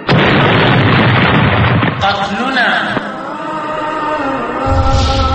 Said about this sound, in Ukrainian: На іншому – молодий боєць у традиційному афганському одягу врізається в американський конвой. Камера фіксує вибух і великий стовп диму.